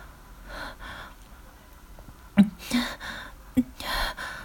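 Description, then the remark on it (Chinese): Heavy, labored breaths from a mother heave in and out, several ragged gasps spaced unevenly, with a couple of sharp little clicks between them and no talking. “妈妈现在还在大口大口地艰难地喘气，就像在家时扛了很重的东西一样，不停地喘气。”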